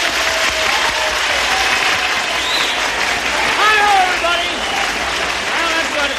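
An audience of the 1957 Australian radio program the Humble Show, featuring touring rockers a singer and another singer, applauds steadily for about six seconds, a dense, loud wash of clapping with whoops and calls rising over it.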